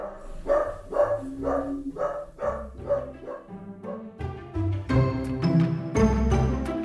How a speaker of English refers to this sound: That's my little wiener dog. His name is Walnut. Walnut, that's enough, buddy.